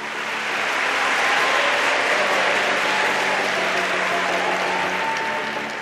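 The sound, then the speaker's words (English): A large audience of students applauds at the end of a lecture in the Yale university concert hall, dense overlapping clapping that swells up quickly and holds loud and steady for several seconds before easing slightly at the end, with no voices. “That tiny, polite ripple of applause you might get at the end of a lecture? Well, it turned into this.”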